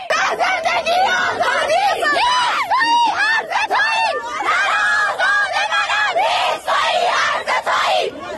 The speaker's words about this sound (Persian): این فریادهای اعتراضی دانش آموزان مدرسه‌ای در تهران پارس.